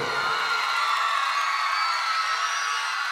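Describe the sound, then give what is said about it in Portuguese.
A large concert audience in São Sebastião roars with sustained shouting and cheering, a dense, loud wall of voices that holds steady for a few seconds with scattered whoops rising out of it. “Quem gostou dá um gritão embaixo!”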